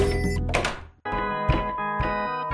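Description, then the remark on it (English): A door opens in a video game with a heavy thunk and a rumbling scrape, then after a brief gap a bright, sustained chiming tone swells in, with no one speaking. “The door happens.”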